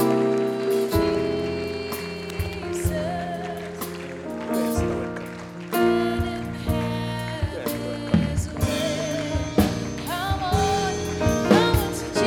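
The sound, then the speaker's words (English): Steady applause at a church service, a dense crackling wash of many hands clapping for people coming to the front to give their lives to Jesus, runs continuously under sustained musical tones and brief bursts of voices. “Oh, put your hands together for them. Oh, don't stop clapping for them.”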